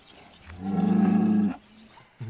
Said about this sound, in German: die Kuh sagt Mu, das sagt schon alles.